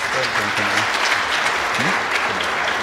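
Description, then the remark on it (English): A church audience at a baptism applauds steadily, a dense wash of many hands clapping at once, with voices murmuring and calling out underneath. “Yeah, you can clap.”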